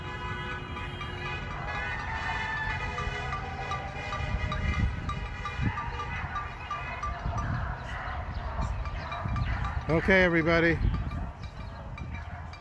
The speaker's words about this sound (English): That dog's really showing his love.